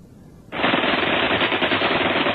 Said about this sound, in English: Rifle and machine gun fire rained on them from above and to their front. The surprise was complete.